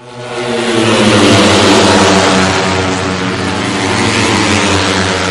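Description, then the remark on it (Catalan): Loud, sustained roar of motorcycle engines revving together, a thick buzzing growl that swells slightly and holds steady throughout, continuous with no voices. “Por cierto, estamos oyendo el ruido de las motos.”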